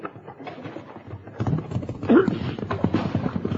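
Rapid clip-clopping hoofbeats of several horses riding off, a dense rhythmic drumming that swells louder partway through, with a brief voice calling out over the galloping.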